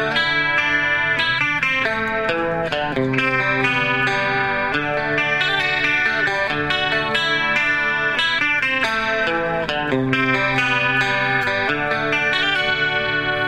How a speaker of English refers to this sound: Which is a sound that I used to play with … to add the Leslie guitar, which is a huge part of the sound in the studio.